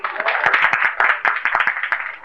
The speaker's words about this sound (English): Give a loud applause here.